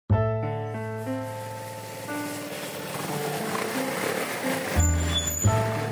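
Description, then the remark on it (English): Walking into Betty's Bakery, housed in an old car workshop among car shops and mechanics in the Botanikos area of Athens, with no automatic doors or bells: a continuous wash of rushing noise under layered humming tones that shift pitch every second or so, growing slightly louder toward the end, with no clear voices. “This is what it sounds like when I'm getting inside Betty's Bakery in Botanikos area of Athens.”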